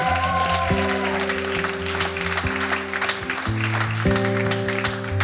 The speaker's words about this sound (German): Einen riesigen Applaus bitte nochmal für ihn.